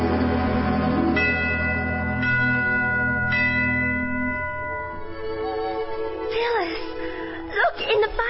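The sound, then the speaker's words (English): Sleigh bells ring in a few bright, spaced strikes over a sustained, humming musical backdrop, moderately loud, with a wavering voice-like sound rising near the end. “I thought I heard sleigh bell.”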